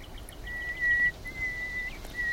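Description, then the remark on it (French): A nightingale's position call, the call it always gives at the start of its song: thin, steady whistled notes held at one pitch, repeated three times with short gaps, fairly soft over a faint outdoor hiss. “Alors, il commence toujours son chant par son cri de position, et après il décline son identité.”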